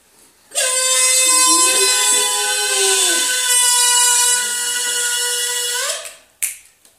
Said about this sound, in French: Mais soudain, tout le monde s'arrête. On entend une moto arriver.